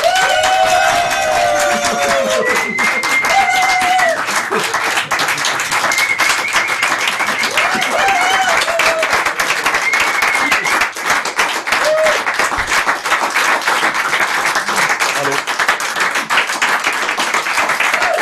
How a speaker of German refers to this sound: Dass Sie klatschen, ist ja super. Vielen Dank für den netten Empfang.